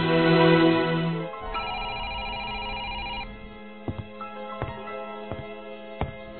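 A telephone rings in an apartment with an electronic, tonal ringtone, loud, followed by a few sharp clicks and knocks as if the handset is picked up. No one speaks.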